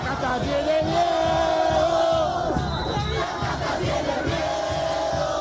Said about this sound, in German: Die Kaste zittert vor uns, brüllt er. Die Kaste hat Angst, johlen seine Anhänger.